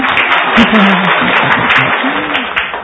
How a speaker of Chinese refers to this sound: 对了，对了，对了，很好。然后来给一个鼓掌。